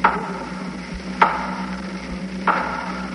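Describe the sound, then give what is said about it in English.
Three slow, loud, distinct knocks on wood at the head of a bed, each a sharp, solid thud about a second apart, heard alone over a faint steady hum. “Then I heard three slow, loud, distinct knocks at the head of my bed.”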